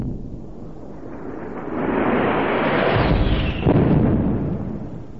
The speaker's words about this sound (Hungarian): Mi volt ez? Ilyen szörnyű detonáció, csak valami robbanás idézhetett elő.